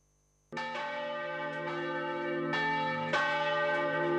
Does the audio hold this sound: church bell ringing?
yes